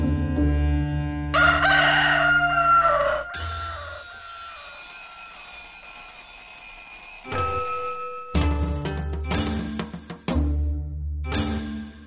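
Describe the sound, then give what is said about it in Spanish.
A rooster crows loudly several times with no talking, one long drawn-out call trailing off in the middle, followed by shorter, choppier crows toward the end. “La luz vence cuando el gallo despierta el sol y la noche se retira.”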